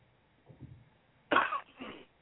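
Someone clears their throat: a soft low rumble, then two harsh, raspy bursts in quick succession, with no talking.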